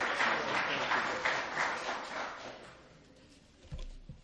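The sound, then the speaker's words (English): A short burst of crowd applause for a chaplain being introduced, dense and fairly loud, tapers off after about two and a half seconds, leaving a quiet stretch with a couple of low thumps at the end. “Hold your applause.”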